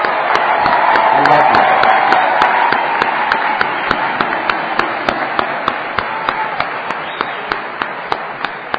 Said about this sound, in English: He's not going to stand up, but I want to just give him a little round of applause.